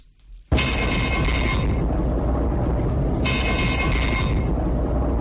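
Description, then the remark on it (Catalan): The radar alert tone of the Guardia Civil's Pegaso team, based at El Prat airport, signalling a detected drone flying irregularly at a non-permitted altitude, starts abruptly and loudly, a buzzy, harmonic-rich blare that sounds in two long bursts over a constant rushing, rumbling background. “Aquest so indica que el radar de l'equip Pegaso ha detectat un dron que està volant de forma irregular.”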